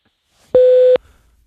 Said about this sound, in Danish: Læg en besked efter tonen.